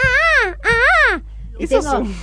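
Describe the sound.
A person imitates the call of a countryside bird said to announce a coming storm, with two loud, rising-and-falling crying hoots in quick succession, followed by a softer, wavering third call.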